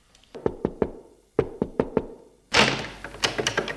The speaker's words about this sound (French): Elle frappe à la porte.